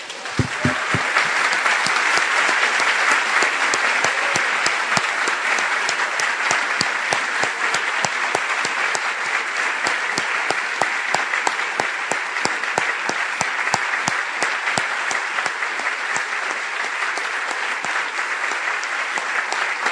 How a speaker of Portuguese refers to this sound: Só tem uma coisa que nós podemos fazer quando falamos isto aqui, juntos, em nossa reunião da igreja, é aplaudir o nosso Senhor.